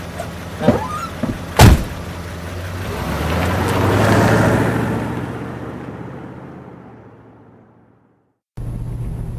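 A couple of sharp clunks, then a car's road and engine noise swells up loudly and slowly fades away, before an abrupt cut to a steady low hum.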